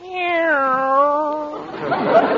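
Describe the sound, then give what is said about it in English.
A single long, drawn-out cat meow, loud and close, holding a steady whining tone for over a second before giving way to a brief burst of rough, breathy noise. “Nice Charlie. Meow.”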